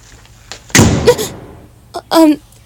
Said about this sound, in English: the door just closed? It shouldn't be like that, right? No, it looks like we're trapped.